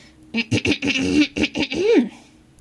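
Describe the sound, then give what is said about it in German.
A man at a counter clears his throat a second time in a short run of voiced, rasping bursts that ends in a rising 'ahem', fairly loud, with nothing else around it. “Er räusperte sich noch einmal.”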